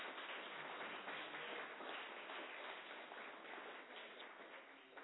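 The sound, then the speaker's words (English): A crowd at a conference applauds everyone involved with it, a dense wash of many hands clapping at once, sustained and fairly loud for several seconds before easing off slightly toward the end. “So let's just give everyone a round of applause for anything at all to do with the conference.”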